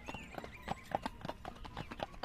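Quick, steady clip-clop of a gray pony's four small hooves on a smooth pike road, about four sharp knocks a second in an even trotting rhythm, moderately loud with no voices.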